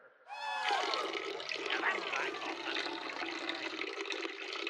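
A man urinates into a toilet, picked up by his microphone that was left on: a loud, steady splashing stream that starts abruptly with a brief rising gurgle, then pours on without pause for over four seconds. No one speaks.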